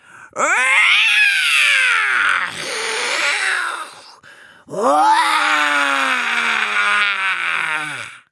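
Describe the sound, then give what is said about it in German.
Voices imitate tiger roars, as Wim and the tiger girl of a children's jungle story roar as loud as they can: two long, loud, strained growling bursts with a falling pitch, separated by a brief rougher rumble and a short pause. “Wim und das Tigermädchen brüllen so laut, dass sie gar nicht mitbekommen, wer nun vor ihnen steht.”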